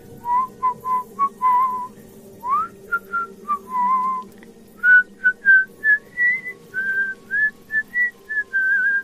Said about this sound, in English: The whistling started in August.